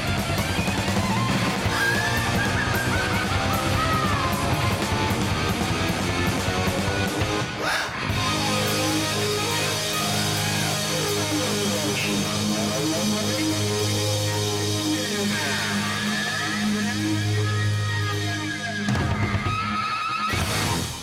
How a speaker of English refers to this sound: the big rock ending for … from …